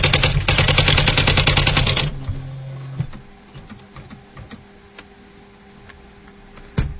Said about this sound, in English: Now we got a typewriter sound. Sometimes you will get these sounds.